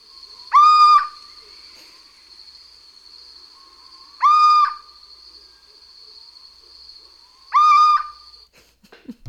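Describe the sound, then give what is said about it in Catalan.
Three mournful, rising calls of a little owl, evenly spaced about three to four seconds apart, clear, over a steady high insect-like whine with no talking. “Això és un mussol. Un mussol. El mussol comú.”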